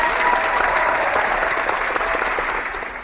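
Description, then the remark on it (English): A burst of applause sound effect played by a sound effects operator at the start of a comic book show: dense, steady clapping from many hands, loud and sustained throughout before tapering off slightly at the end, with no voices. “I didn't realize we have sound effects guys in here.”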